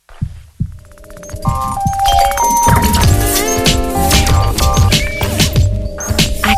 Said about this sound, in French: Alors, petite écoute nostalgie de deux jingles, mais il y a quand même une question. À vous de savoir, parmi les deux, lequel est le plus ancien. On écoute le premier.